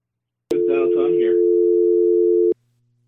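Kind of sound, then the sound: signal or alarm, telephone dial tone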